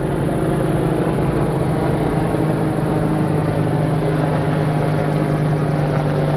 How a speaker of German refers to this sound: Auch wirklich zwei riesigen Riesenbrocken von Hubschrauber, die da gerade über mir wegfliegen. Ziemlich tief. Meine Fresse.